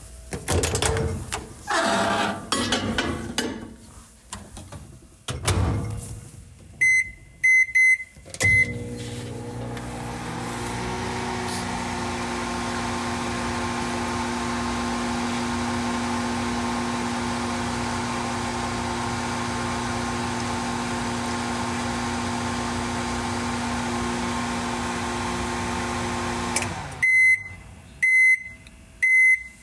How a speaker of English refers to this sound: That was the sound of the military-industrial food complex. Yeah, right, it was a microwave oven heating up a dish of leftover pasta.